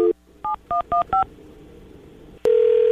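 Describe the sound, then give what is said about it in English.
A short tone, then five quick, evenly spaced touch-tone dialing beeps as a phone call back to a woman is placed, followed by a click and a loud, steady telephone tone that holds to the end. “All right, I'm going to try to call her back.”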